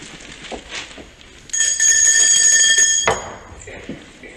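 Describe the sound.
A small hand bell, rung by a woman at the coffee table to summon the maid, rings steadily for about a second and a half, bright, then stops abruptly, with quiet room noise and faint voices before and after.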